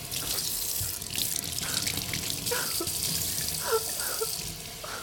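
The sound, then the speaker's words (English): Water runs steadily from a faucet into a sink while a skirt is being cleaned, a continuous hissing rush with small splashes and gurgles shifting throughout, no voices present. “This escaped Shiro's attention as he was busy running water from the faucet, trying to clean the skirt.”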